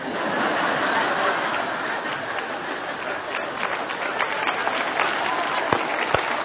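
A live audience bursts into sustained applause, dense clapping for several seconds, with a few sharper claps standing out near the end and faint crowd murmuring underneath.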